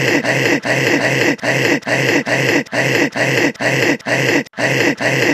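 Heavy, raspy, groaning breaths repeat in a fast steady rhythm, about a dozen loud wheezy cycles close to the listener, with no talking.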